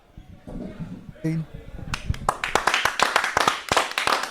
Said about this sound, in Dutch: Ja, en onder luid applaus is aangeschoven hier aan de podcasttafel hoofdtrainer